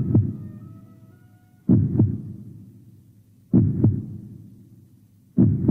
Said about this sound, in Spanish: Se acercó un poco más y entonces escuchó el latido.